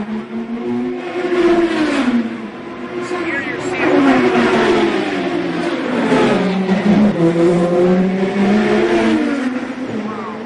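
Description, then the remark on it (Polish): A loud, high-pitched Formula 1 race car engine, a car offered for passenger rides on the Silesia Ring track in Kamień Śląski, Poland, revs up and down repeatedly, its whining pitch climbing and dropping in waves throughout, sustained. “można wykupić sobie na prezencie marzeń na przykład jazdę takim bolidem jako pasażer na torze Silesia Ring”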